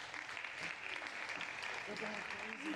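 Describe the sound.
A crowd at the Social Media Strategy Summit claps steadily to welcome a speaker, a dense, continuous wash of applause holding at an even loudness throughout, with faint voices murmuring underneath.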